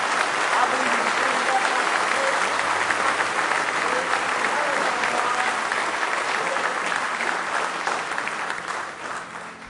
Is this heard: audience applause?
yes